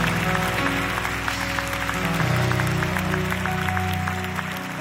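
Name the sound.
audience clapping hands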